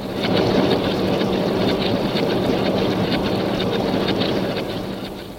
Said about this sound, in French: Alors les puissantes rotatives se mettent en branle, débitant et pliant le journal au rythme de plusieurs dizaines de milles à l'heure.